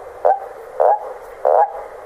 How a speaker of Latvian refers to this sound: Ūdeņos riestojošajām brūnajām vardēm pievienojušies parastie krupi ar savām melanholiskajām, melodiskajām balstiņām.